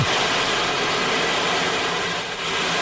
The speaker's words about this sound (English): I don't know what it's called, but it sounds like the ocean. It's the ocean wave drum, and it's very soothing and kind of addictive.